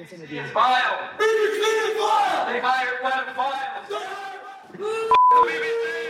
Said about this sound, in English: And then a crowd of supporters came shouting abuse.